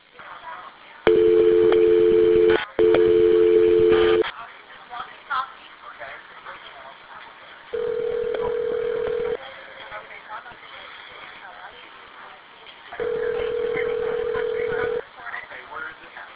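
A phone line rings out as the Orlando Police call back a phone that dialed 911: steady two-tone ringback bursts about two seconds long repeat at intervals, clear, with faint background murmur between rings.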